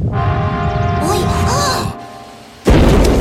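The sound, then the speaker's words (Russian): Heavy rumbling and a droning hum with faint whistling tones as a stove shakes, then a brief lull before the stove's damper door bursts open with a sudden, loud crash and a tub flies out of the stove, the roar continuing to the end. “Заслонка с грохотом распахнулась, и кадушка вылетела из печи.”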